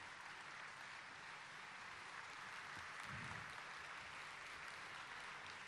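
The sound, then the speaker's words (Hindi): An audience standing on its feet gives a long, steady standing ovation in the Diamond Hall, dense crackling clapping that holds at an even level throughout without any speech over it. “खड़े होकर के आप सब तालियों से इनका सम्मान करें।”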